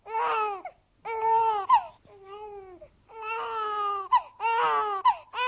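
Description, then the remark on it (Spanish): A newborn baby son cries in loud, wailing bursts, four or five strained cries separated by brief gasping pauses, with a softer whimper in the middle. “Y cuando oyó el llanto de su hijo, que había nacido en su ausencia, comprendió que había prometido entregar al diablo a su vástago.”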